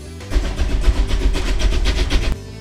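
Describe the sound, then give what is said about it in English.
A heavy train engine rumbles for about two seconds, with a deep low throb and rhythmic clanking pulses as it slowly comes off a turntable, then cuts off abruptly. “There's your pride and joy just coming off the turntable.”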